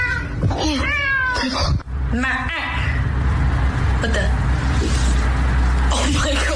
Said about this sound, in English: So that is people calling their cats and the cats are coming to them.